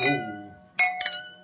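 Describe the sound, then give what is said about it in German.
Glasses clink together several times in quick succession in a toast in Vienna, each strike bright, leaving a clear ringing tone that lingers between touches, with no voices. “Prost, dich an. Prost. Prost. Prost.”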